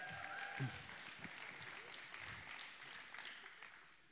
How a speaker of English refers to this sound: All right, give Jesus a hand clap.